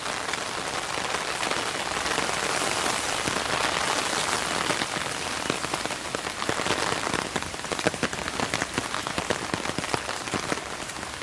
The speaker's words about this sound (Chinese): 因为下雨天，所以不是很好玩，这里个人都没有。